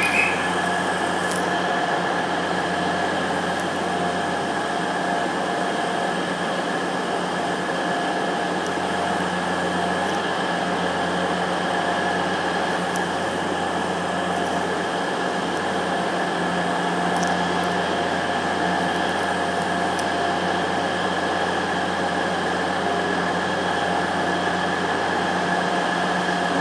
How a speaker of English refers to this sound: The trouble is, when the train's so loud, you can't really hear much unless it's right nearby.